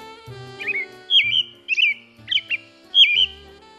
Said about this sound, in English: And spring is on the way as we listen to Robins and Other Birds with Donald Kruzma.